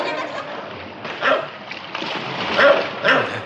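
A dog barks furiously in a few sharp, loud bursts over a steady wash of splashing water and faint background voices.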